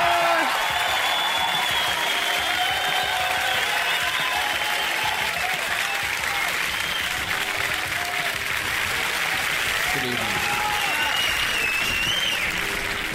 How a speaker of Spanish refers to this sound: Se ha ganado la polera. Muy bien. Aplausos. ¡Bravo!